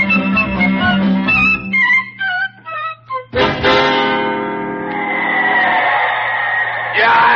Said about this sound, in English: The crowd is yelling so loud here at the stadium, I just can't hear a word that you're saying.